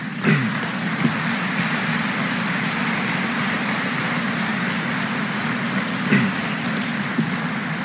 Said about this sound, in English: Graduates, now it's your turn. Please stand up. I'd like you to turn around and face your families and give them a round of applause as well.